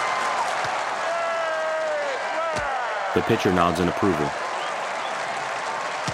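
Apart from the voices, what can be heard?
stadium crowd cheering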